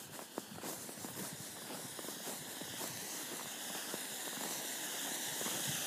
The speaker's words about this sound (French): C'est un bruit de cascade qui se fait entendre. Le ruissellement de l'eau sur un rocher.